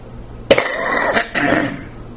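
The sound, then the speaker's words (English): A person who has taken a cough drop coughs twice: a sharp, harsh burst followed a moment later by a second, rougher cough that trails off, with no talking. “This cough drop is doing nothing for me.”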